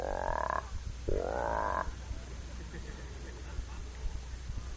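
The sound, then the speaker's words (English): A person imitates a big bullfrog, croaking twice, each call a loud, deep, buzzy drone that rises slightly in pitch. A short pause separates them, then only a low, quiet background hum remains. “And the big old bull, he loves days like today. He just lays around, and every now and then you hear a big...”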